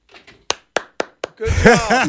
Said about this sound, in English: Golf clap. Sit back down.